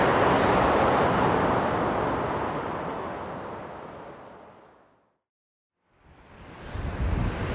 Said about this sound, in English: All right, Tatsumi Wharf. At least it's a little windier now that I'm by the bay. It's cooling me down. It's actually extremely windy. Tatsumi Wharf is a completely industrial wharf. Just big cranes, big shipping containers.